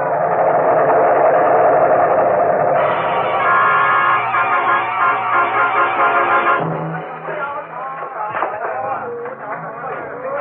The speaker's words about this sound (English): Here comes another plane.